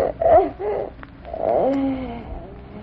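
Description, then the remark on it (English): A cat named Rana, hiding in a cupboard, gives two drawn-out, wavering meows, the second longer and sliding in pitch, with a short pause between them and no talking. “What's that? It's Rana, her cat.”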